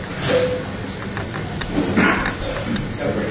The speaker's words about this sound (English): Air conditioning's on loud.